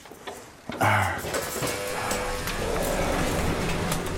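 An elevator ride up to the 8th floor: a steady mechanical rumble and whir begins after a brief thump, holding at an even level with faint tonal hums and light rattling. No one speaks.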